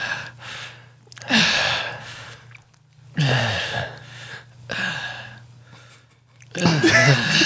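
Heavy, exaggerated breathing close to the mic: loud, drawn-out breaths in a slow rhythm, about three long gasping exhales with short pauses between, over a faint low hum.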